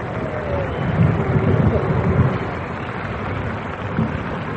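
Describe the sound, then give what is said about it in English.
A crowd applauds steadily for four singers at the Chicagoland Music Festival, a dense, even wash of clapping that holds at a fairly loud level for several seconds without a break or any voices. “Let's show by our applause how much we enjoyed them.”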